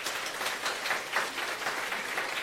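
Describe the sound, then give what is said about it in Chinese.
Warm applause from an audience welcoming newcomers, a steady dense patter of many hands clapping at moderate loudness with no voices over it for the whole stretch. “请起立，让我们用热烈的掌声欢迎你。”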